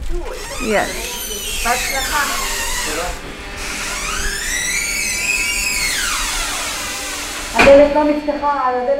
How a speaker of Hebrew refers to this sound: הסאונד הכי בולט בכניסה למחלקה הוא מה שנשמע כמו מזגן חזק במיוחד. זו מכונת הוואקום, שיוצרת לחץ אוויר שלילי בתוך המחלקה.